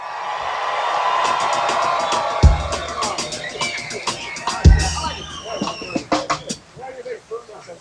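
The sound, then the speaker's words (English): An audience claps and cheers in congratulation of a bass player, with scattered whoops and shouts rising over steady applause; two sharp thumps punctuate it before the clapping thins out toward the end. “How about a nice round of applause and congratulations”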